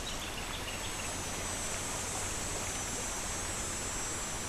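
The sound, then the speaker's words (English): A creek flows steadily beside where people are sitting, with a soft, continuous rush and babble that stays even throughout, with no voices. A faint high insect-like hiss sits on top. “And they would have camped along this creek where we're sitting now.”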